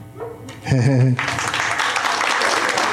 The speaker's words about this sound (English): Followed by polite golf applause.